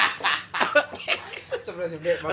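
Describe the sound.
A voice imitates a comical, trumpet-like cough: a run of short, breathy bursts followed by a few honking, tonal hacks, moderately loud, edging toward a chuckle.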